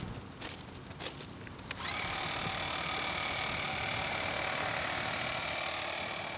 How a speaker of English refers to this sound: Every truck is also equipped with a high-pressure washer so that graffiti on concrete, sidewalks, certain things, we can pressure wash off with a heated high spray water. This bridge is painted at least once a week. Let me grab my sprayer.